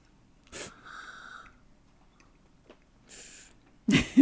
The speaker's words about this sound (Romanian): să scoatem niște sunete ciudate, pentru că atunci când vom pune în gură, nu vom înghiți direct, ci vom face o chestiune care se numește stripagio. Se trage puțin aer printre dinți ca să se ducă pe toate papilele gustative. Aha, deci de genul acesta.